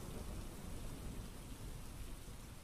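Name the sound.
heavy rain with thunder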